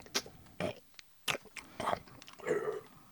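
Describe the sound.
A voice imitates wet chewing and sticky swallowing, a string of irregular smacking and gulping mouth noises, about half a dozen bursts over three seconds, with no words spoken.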